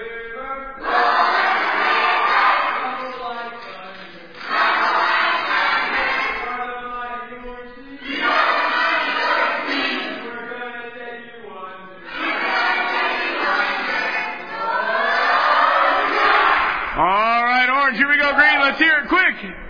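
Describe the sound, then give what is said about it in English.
A group of people, the Orange team, cheers and shouts on request in several loud bursts with brief pauses between them, ending in high rising whoops and yells, energetic. “Here we go, Orange. Give us a cheer. Make it a quick cheer.”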